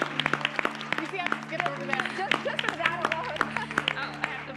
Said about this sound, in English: Let's give her a clap.